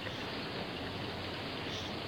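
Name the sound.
rain falling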